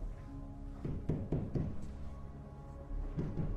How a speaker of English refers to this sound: He turns back to the wall and knocks on it.